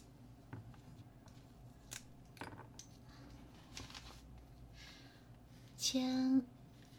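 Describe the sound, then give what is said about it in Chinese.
Faint, scratchy strokes of a pen signing on paper come in short, irregular bursts, quiet, followed at the end by a brief murmured vocal sound. “签乙月就可以了吗？”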